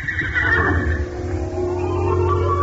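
A horse gives a loud, drawn-out whinny, its shrill, wavering call fading into a lower rumbling snort, with no one speaking over it.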